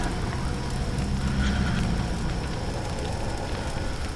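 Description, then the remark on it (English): A huge raging fire engulfing Mount Olympus roars steadily, its dense rumble laced with irregular crackles and pops throughout, fairly loud and unbroken with no voices. “You hear the sound of sirens way off in the distance, but you can barely hear them over the raging fire that's behind you that has engulfed Mount Olympus.”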